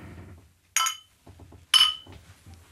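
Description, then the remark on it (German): Two bright glass clinks about a second apart during a toast, each ringing briefly and fairly loud, with low muffled voices murmuring in the gaps between them. “Ja, Prost. Prost.”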